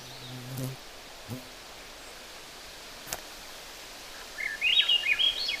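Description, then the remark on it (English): A Swainson's thrush sings near the end, a brief run of rising, fluting notes over a quiet, hissy outdoor background with a few soft thumps and rustles earlier. “The Swainson's thrush is kind of olivish on the back, white breast with some spotting from the throat down onto the breast.”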